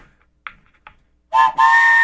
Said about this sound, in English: Can you do the train whistle into the blowhorn into the microphone?